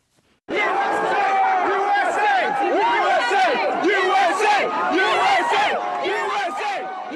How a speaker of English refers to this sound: But first, after President Obama announced last night that Osama bin Laden had been killed, the news was met with celebrations from crowds gathering spontaneously at Ground Zero in New York and in front of the White House in Washington, D.C.